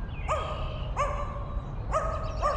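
A dog, Spotty, barks four times in short, high-pitched, yappy bursts at uneven intervals from underground tunnels, each bark ringing briefly over a steady low rumble of background noise.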